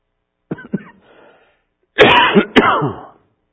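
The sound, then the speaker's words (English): Two small coughs followed by a pause, then a louder, harsher burst of coughing, with no talking. “I hope the cough don't blast somebody's computer out of the way there.”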